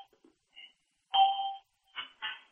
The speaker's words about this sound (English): Say that again. There was a couple of beeps in there halfway through.